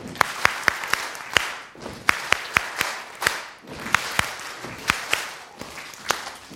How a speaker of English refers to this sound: Now we're going to stomp and clap twice, stomp and clap twice. Ready? So five, five, two, two.